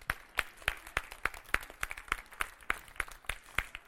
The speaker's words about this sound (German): Applaus.